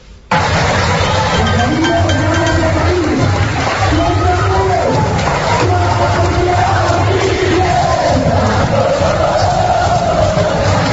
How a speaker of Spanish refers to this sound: Así era como se despedía el entrenador, o así era como la afición despedía al entrenador de la Unión Deportiva Las Palmas.